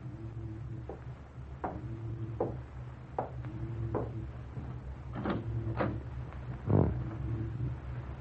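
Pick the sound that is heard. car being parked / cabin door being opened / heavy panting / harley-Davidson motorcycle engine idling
cabin door being opened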